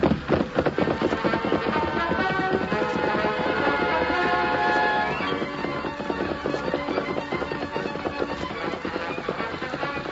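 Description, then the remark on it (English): Rapid, rhythmic hoofbeats of Silver, a great white stallion galloping with a masked rider in the saddle after an escaping rider, pound steadily and loudly for ten seconds, easing slightly in volume about halfway through while the fast drumming pace continues. “In a moment, the great white stallion was thundering after the escaping rider.”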